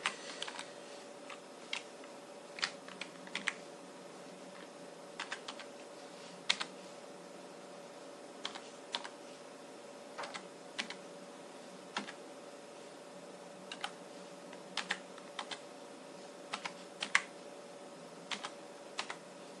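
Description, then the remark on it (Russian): Irregular keystrokes clatter on a computer keyboard, sharp clicks arriving in quick bursts and pauses over a steady low hum, moderately quiet with no talking. “Еще и клавиатурка присутствовала.”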